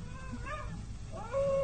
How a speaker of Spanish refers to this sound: ¿Escucha? Sí, sí. ¿Otra vez los aullidos? Efectivamente. Bueno, tal vez se trate de un lobo solitario o bien una bestia humana.